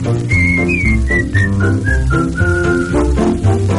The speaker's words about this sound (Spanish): Silbemos todos juntos esta alegre melodía.